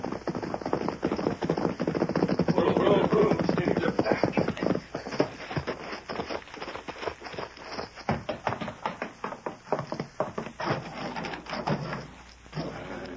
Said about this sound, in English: As soon as they get inside, you go up and knock on the door.